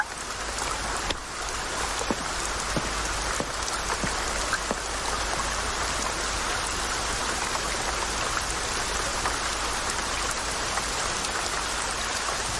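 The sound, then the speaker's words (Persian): Steady rain pours down with a dense, even hiss, broken by a few sharper drips and patters near the start; it stays constant and fairly loud throughout, with no voices. “آره، به نظرت بارون بند میاد؟”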